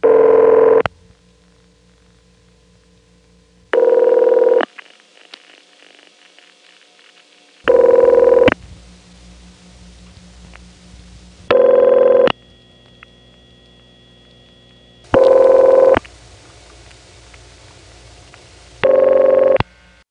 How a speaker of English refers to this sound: So with Bell System PBX rings, unlike any other type, there seems to be a wide variation, and I don't know whether there are one, two, or more official types of machines.